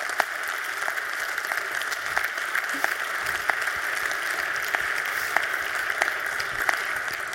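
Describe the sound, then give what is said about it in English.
An audience claps steadily for about seven seconds at the end of a presentation, a dense, even wash of many hands with a few sharper individual claps standing out. No one speaks. “I wholeheartedly agree with that scene applause.”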